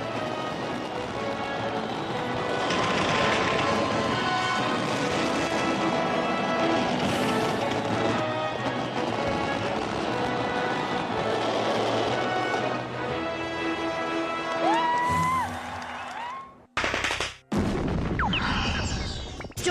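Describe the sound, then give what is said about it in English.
Fireworks at a big show, set off by an operator pressing buttons on cue so they explode in time to music, burst in a dense, continuous barrage of booms and crackles, with a few whistling rockets rising near the end before the noise cuts off abruptly. Music may play underneath. “The fireworks have to explode in time to the music.”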